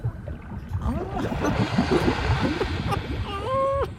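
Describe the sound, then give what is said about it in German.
A black smoker hydrothermal vent, a hot spring on the floor of the primeval deep sea, underwater: a dense, continuous rumbling roar with churning, bubbling gurgles throughout, steady and loud, with a faint tonal whine rising near the end. “Das ist ein schwarzer Raucher.”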